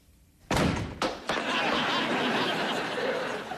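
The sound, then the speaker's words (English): A hammer bangs hard on a stuck door to loosen it so it can be opened: three loud blows in quick succession, followed by a continuous wash of background noise with some faint laughter. “We've got to get the door open before Mom gets home. Okay, fine. You're crazy. All right, I have to try and loosen it up.”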